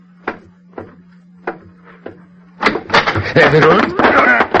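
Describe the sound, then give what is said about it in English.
Four soft, evenly spaced steps or knocks over a low hum, then a door opens abruptly into a loud burst of jostling noise with muffled voices. “Now, when he comes through the door, I'll pin his arms.”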